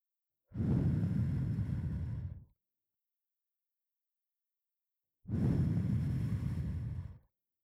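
Two long, soft breaths blown into the ear to blow away moisture after an ear cleaning, each lasting about two seconds with a pause between them. A breathy, airy rush, steady and fairly loud, with no talking.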